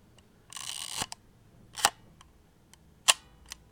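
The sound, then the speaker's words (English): A film camera's winding crank ratchets for about half a second, followed by two crisp, springy shutter clicks and a few faint mechanical ticks, with no talking. “That lovely springy sound.”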